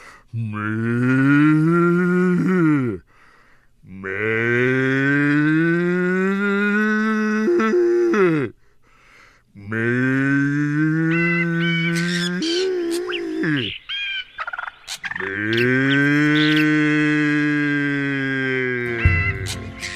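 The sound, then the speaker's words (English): A person's voice lets out four long, drawn-out moo-like calls to bring cows running, loud, each sustained bellow rising in pitch, with a brief cracking break in the voice in the middle; no talking. “That little crack in the voice, I think, is what really got the cows running.”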